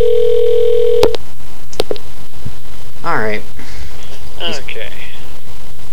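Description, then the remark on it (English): A telephone call goes unanswered: the ring tone hums steadily for about a second, then cuts off with a sharp click; a few more clicks and brief voice sounds follow over a low background hum. “It doesn't look like anybody's going to pick up this time either.”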